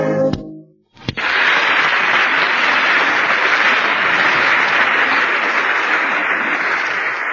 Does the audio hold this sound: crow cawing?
no